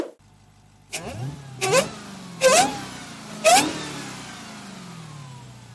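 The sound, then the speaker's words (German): A car engine revs hard four times in quick succession, each surge carrying a rising, high-pitched supercharger whine over the throaty rumble. Loud, with no voices. “Der Sound, man kennt ja dieses Kompressorjaulen, ja, und das kennt man von einigen Autos mal mehr, mal weniger laut.”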